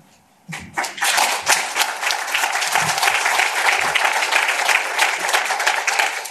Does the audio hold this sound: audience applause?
yes